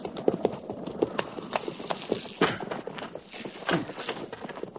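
Horse hooves clip-clop steadily at a walking pace, with several overlapping hoof strikes and a faint murmur of voices in the background.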